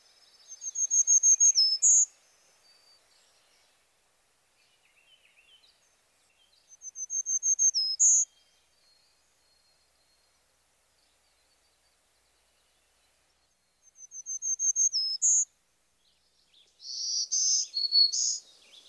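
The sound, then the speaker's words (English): A Black-throated Green Warbler sings four high, thin, buzzy song phrases, each about two seconds long and separated by pauses of quiet. The songs are clear, with no voices. “Our final warbler is the most difficult from a vocalization point of view.”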